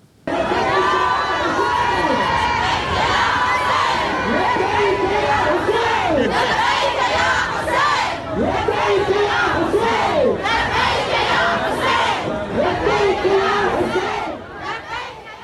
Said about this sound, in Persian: اون هم در شرایطی که تازگی‌ها و در جریان گشایش بازی‌های غرب آسیا در شهر کربلا، زنان با آزادی و بدون پوشش اسلامی در ورزشگاه تازه تأسیس این شهر حاضر شدند و حتی آواز هم خواندند.